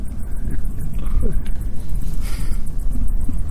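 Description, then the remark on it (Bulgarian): A dog growls, a low, rough, agitated rumble that carries on steadily for a few seconds with restless, uneven pulses. “Ето вижте, почваме да говорим за този тип философия, как кучето почва да се притеснява.”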